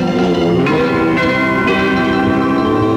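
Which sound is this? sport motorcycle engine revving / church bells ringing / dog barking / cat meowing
church bells ringing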